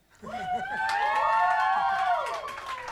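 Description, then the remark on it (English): An audience breaks into loud, sustained cheering and whoops after a performance by the Equitopia Orchestra from Vida, with scattered clapping underneath, swelling quickly and holding steady for a few seconds before starting to fade. “Ladies and gentlemen, another round of applause.”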